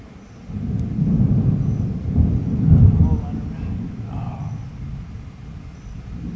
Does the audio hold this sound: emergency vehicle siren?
no